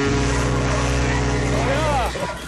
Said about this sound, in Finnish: niin sit on satulassa se sumutorvi. Joo, nyt tyyttärinen liitte on, et painat nappia, niin sit no kuuluu kova ääni. Et me tiedetään, ollaan valppaina. Itse sharp tähän. Sä voit kokeilla se sumutorvi se tai se soundi, kun se on helvetin äänekin.